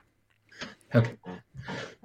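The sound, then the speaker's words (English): A forceful sneeze: a harsh, noisy burst set among a short series of rough, breathy vocal sounds, fairly loud against a quiet background. “Bless you.”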